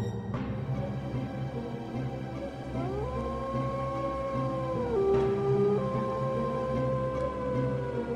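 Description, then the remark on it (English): A single wolf lets out a long, drawn-out howl that rises and holds steady for several seconds, heard clearly over a low, constant rumble in the background. “Pack rats, too consumed by the need to grab the next shiny object, failing to hear the lone wolf who precedes imminent doom with her cry.”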